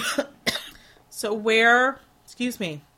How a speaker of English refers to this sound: I've had this cough I cannot get rid of, and it just comes out of nowhere.